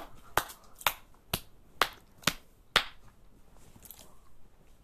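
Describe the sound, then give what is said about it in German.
Six sharp, evenly spaced hand claps ring out in a slow, steady rhythm, each crisp and loud, followed by a quiet pause with no talking. “Jetzt hatte ich so ein Piepen im Ohr, weil ich so geklatscht habe.”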